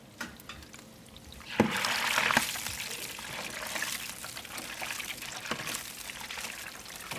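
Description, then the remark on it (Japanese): A whole spiny lobster deep-frying in Fukushima Prefecture, Japan: a soft hiss swells into a loud bubbling sizzle as it hits the oil, then settles into a steady crackle with occasional pops, with no talking. “伊勢海老一尾を揚げる音、ぜひ福島に来て驚いてください。”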